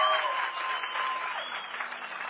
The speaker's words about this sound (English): Come on, can we give God a hand clap for this? Можем мы дать славу Богу?